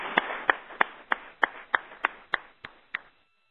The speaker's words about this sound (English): And I take this opportunity to thank all the presenters that contributed to our conference this year, and I ask you to join me in a big applause to both of them.